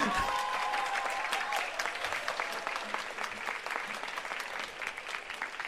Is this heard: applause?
yes